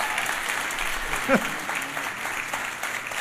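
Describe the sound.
An audience claps steadily, a dense wash of applause that holds for a few seconds, with a brief voice cutting through the middle.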